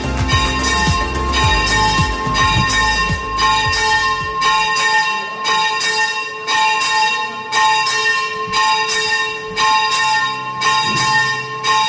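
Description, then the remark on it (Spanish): Church bells of the Basilica of San Pascual ring out in a loud, steady peal on the eve of the San Pascual holiday, with struck notes arriving in a quick regular rhythm and their tones overlapping into a continuous shimmering wash. No voices are heard. “Pues aquí continuamos tan a gusto en el Museo del Poet de la Basílica de San Pascual, escuchando campanas.”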